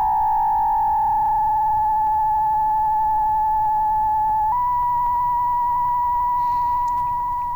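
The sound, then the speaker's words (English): A steady, pure electronic synthesizer tone, switched on and played through a mixer with the gain turned up, hums on its own, then steps up slightly in pitch partway through, sounding eerie and ghostly before fading a little at the end. “Wrong knob. There it is. Oh, it's so ghosty.”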